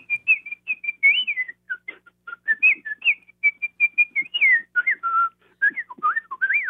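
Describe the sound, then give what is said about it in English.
A person whistles a quick, chirpy bird-like melody imitating the little bird's piccolo part in an orchestral piece, with rapid trills and darting up-and-down notes in short bursts, fairly loud, with no talking. “I particularly like the little bird and played by the piccolo in Prokofiev's Peter and the Wolf”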